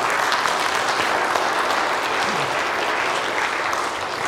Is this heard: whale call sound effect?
no